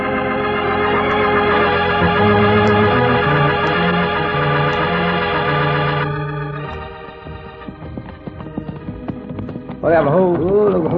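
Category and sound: animal, horses' hooves clip-clopping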